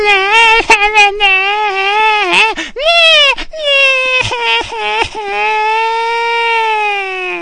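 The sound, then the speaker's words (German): A baby in a cradle wails loudly in long, strained cries, broken by a few short gasping breaths before the crying resumes and holds steady. “Zum Küssen fehlt uns leider die Gelegenheit, weil immer wenn das Baby in der Wiege schreit und das geht Boom.”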